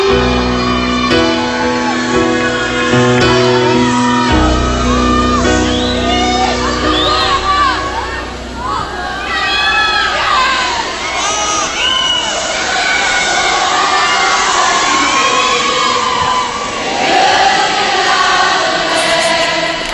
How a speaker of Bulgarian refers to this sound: Сега ще ви пусна мъничко от едно концертно изпълнение, да видите публиката как реагира.